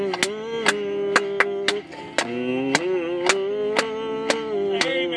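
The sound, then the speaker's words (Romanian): An audience claps in praise to God during a worship song, in a steady rhythm, about two sharp claps per second, over a sustained sung or played tone with rich harmonics that shifts pitch briefly midway. “hai doar să o aplaudăm lui.”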